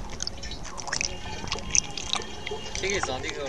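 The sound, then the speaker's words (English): Several gallons of water are drawn from a stream in Taizhou, whose banks are littered with piles of electrical cable, for testing for harmful chemicals, with irregular splashes, sloshing and small drips, and a voice talks over the continuous watery bustle. “On this day, they draw several gallons from a waterway whose banks are littered with piles of electrical cable.”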